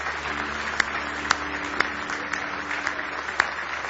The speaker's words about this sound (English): Praise the Lord. Give him a big hand clap of praise this morning.